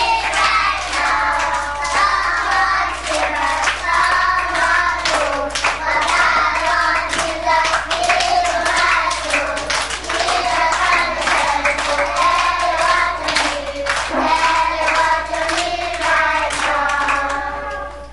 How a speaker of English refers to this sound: They still worship God in the same way that we do. They like lots of joyful noise and clapping in their worship.